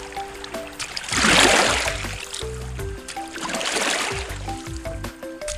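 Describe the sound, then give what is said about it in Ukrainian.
River water splashes and trickles in two swelling bursts as paws are washed in the river, with soft background music playing underneath and no talking. “А я поки піду помию лапки в річці.”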